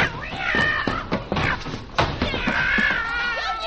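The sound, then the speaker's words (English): A fat cat yowls loudly as someone gets on its back to ride it like a racehorse, with two drawn-out, wavering wails broken up by sharp thumps and clatters, as if things are being knocked about. “I will get on that pussycat's back and play like a racehorse.”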